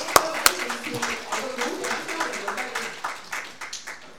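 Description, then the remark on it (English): An audience breaks into applause: two sharp claps open a steady wash of many hands clapping at moderate volume, gradually thinning toward the end, with faint murmuring underneath. “You should be applauding right now.”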